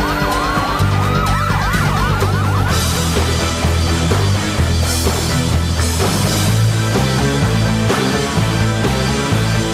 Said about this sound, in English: Police siren still there. It's still there, but otherwise, you know, just a very generic, forgettable pedestrian kind of song.